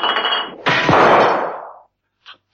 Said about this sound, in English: The two men moved cautiously forward. Mrs. Peel tripped over an empty bottle.